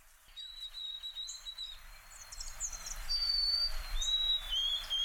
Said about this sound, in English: Sparrows in the bushes sound like fall to me. Those are white-throated sparrows you just heard. The singing is a little scratchy, and we can hear several birds rustling in the honeysuckle.